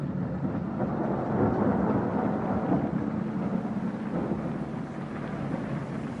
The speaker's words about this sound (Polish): Zbiera się na burzę. Burza będzie.